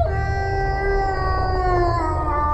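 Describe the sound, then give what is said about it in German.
A growl swells into a long, loud howl that holds steady for a few seconds, its pitch wavering slightly and sagging toward the end, over a low rumbling background. “Verzweifelt schüttelte ich den Kopf und wollte schreien, doch aus meinem Mund kam nur ein Knurren, das zu einem fürchterlichen Geheul anschwoll.”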